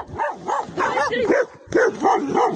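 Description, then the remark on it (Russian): Several stray dogs bark in a rapid, overlapping volley, loud, the sharp yaps running almost continuously with only a brief dip partway through. “Стая собак едва не растерзала женщину в Саратове.”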